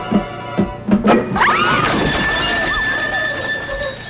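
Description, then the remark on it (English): During a seance in a house, a few sharp knocks lead into a loud crash as a glass flies off and smashes, followed by a bright ringing tail and scattered clatter that slowly fades. “And then the glass goes flying off, scaring everyone.”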